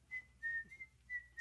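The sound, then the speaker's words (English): A person whistles a short Italian tune, a few sustained clear notes with slight pitch shifts, fairly quiet, with no talking. “Whistling Italian.”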